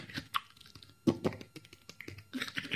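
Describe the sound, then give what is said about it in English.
Crunchy chewing of sugarcane with the teeth, a quick series of irregular crackling bites and gnashes, with no talking over it. “They chew up the cane like a beaver or like whatever. You know, just chop it up.”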